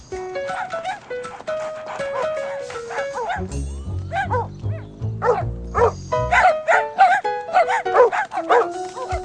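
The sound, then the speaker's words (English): A dog, Maxwell from the show Caillou, gives a series of short, sharp barks and yips over bright, tuneful background music, with a low droning hum in the middle stretch. “Discovered that Maxwell was a smart dog.”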